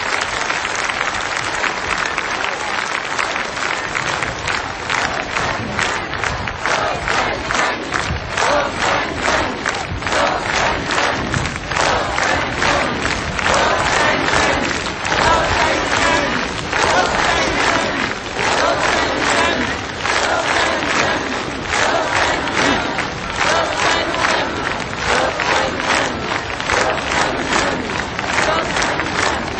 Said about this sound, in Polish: Jak tak wołacie, niech żyje papież, to mi przyszło na myśl, że ktoś sobie raz pomylił i zamiast wołać niech żyje papież, zaczął wołać niech żyje łupież.